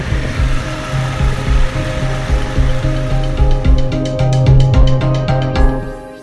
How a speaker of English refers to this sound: my goal was to get out on my motorcycle and to drive to Matagorda Beach. I've wanted to do this for months and I've been putting it off, but because I made it my goal for the quarter, here I am, riding down the beach on my motorcycle.